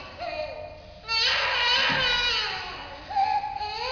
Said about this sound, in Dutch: … huilt, een baby mag huilen